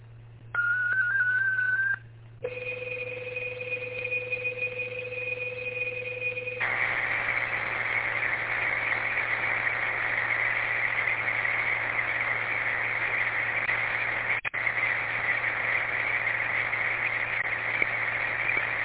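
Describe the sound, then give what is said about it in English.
Loud digital data tones sent as digital traffic over amateur (ham) radio: a brief warbling tone, then a steady two-tone signal, giving way to a long, continuous buzzing data stream over a low hum, with no talking. “All right, stand by for digital traffic.”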